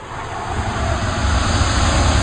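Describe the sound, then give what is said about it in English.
A loud, continuous roar like a jet engine firing up as a prototype suit takes off in a workshop, dense and rumbling with heavy low end, swelling slightly louder over about two seconds with no voices. “There is a roar, and the workshop vibrates a little under Dummy's wheels as Master Tony takes off the prototype suit”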